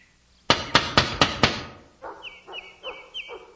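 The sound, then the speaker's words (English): Five sharp, loud knocks on a door in quick, even succession as a woman knocks to gain admission, then a pause and four rhythmic, raspy bursts of a different sound with a high tonal edge. No one speaks. “Therefore, I move that she knock and gain admission for the rest of us.”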